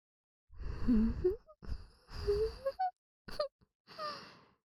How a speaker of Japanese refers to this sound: あのさ、息すんなってこの前言ったよね。臭いって本当に、そのハァハァってのやめてくれない？